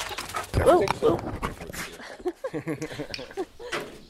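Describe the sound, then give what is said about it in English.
A large German shepherd jumps into the microphone, with close thumping, rustling and a short whine or pant, before a person starts talking over the settling noise. “He has a couple of big German shepherds. You can hear one of them jumping into my mic.”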